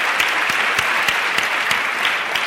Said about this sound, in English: So round of applause for having an amazing guest here.